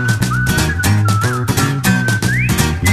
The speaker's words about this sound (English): This party's leaving soon, and your dad whistles a happy tune.